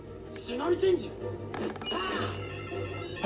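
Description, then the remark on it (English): A single sharp, breathy sneeze, sneezed all over some DVDs, bursts out midway, preceded by a rising vocal intake, with low background murmuring of voices throughout. “Sneezed all over the DVDs.”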